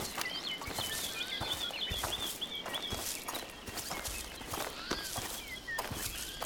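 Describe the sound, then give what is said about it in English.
Steady footsteps tread on foot through thick woods at an even walking pace, each step a crisp crunch, while high bird chirps and whistles carry on faintly in the background. “Then we will proceed on foot.”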